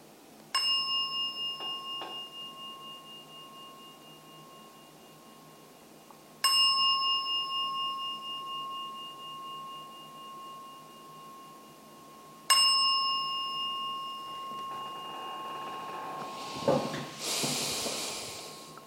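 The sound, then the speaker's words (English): A meditation gong is struck three times, about six seconds apart, each bright, resonant tone ringing and slowly fading, followed by a soft rustling hiss at the end. “I will ring the gong 3 times.”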